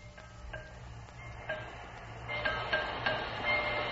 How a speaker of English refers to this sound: Who's that man? What man? With the hammer, the one that's knocking on the wheel. He's an engineer. He's the man who drives the train. Why? Because that's his job. Why is he knocking on the wheel?